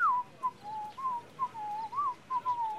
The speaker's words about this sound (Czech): Ale ten kluk si píská na ulici Arii z opery. Hej, ty tam, co si to pískáš? Ty nevíš? To je přece Mozart. Arie z Figarovy svatby.